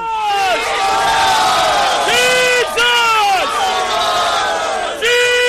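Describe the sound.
A large crowd of Christians chants and shouts the name of Jesus over and over in loud, rising unison calls, the massed voices filling the space with no pause between repeats.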